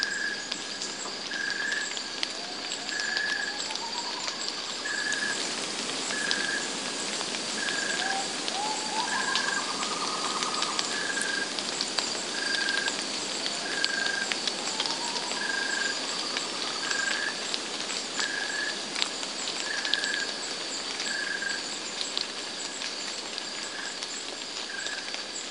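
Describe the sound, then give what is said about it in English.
Steady, dense hiss of rain falling in a forest at night in northern New South Wales, with a rhythmic repeating call pulsing through it and a few soft rising bird notes. “and at some point, it starts to rain.”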